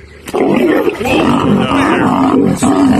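A lion lets out a long, loud, rumbling roar that holds steady for nearly three seconds, deep and throaty, with a brief break partway through.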